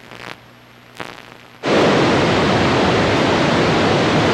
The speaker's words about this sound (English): Niagara Falls, billions of gallons of water.